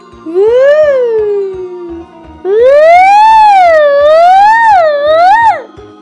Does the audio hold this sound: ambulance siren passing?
yes